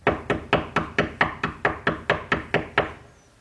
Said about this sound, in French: Le temps de reprendre son souffle et de changer sa grosse voix, et il frappa à la porte de la maisonnette.